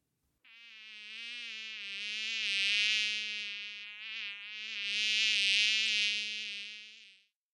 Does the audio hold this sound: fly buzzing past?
yes